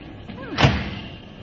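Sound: car door slamming shut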